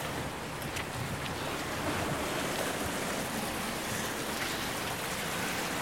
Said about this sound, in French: Et puis là, en face, on a la mer qui est en train de monter, mais qui a laissé quand même un premier passage de marée.